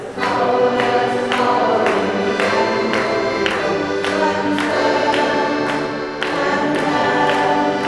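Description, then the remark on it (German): A church singing group sings together at full volume in a steady, full chorus while sharp claps and finger snaps keep a regular beat, roughly two per second, throughout the song. “Okay, nach dieser Ansage mutieren wir vom kirchlichen Singkreis zu einem gut hörbaren Klangkörper, klatschen und schnippen dazu mit den Fingern.”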